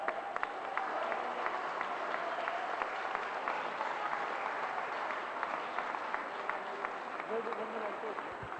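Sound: loud applause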